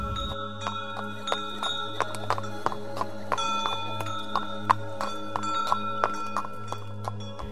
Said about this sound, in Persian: در هنگامه این پریشانی ناگهان صدای پای کاروانیان هوشیارم نمود.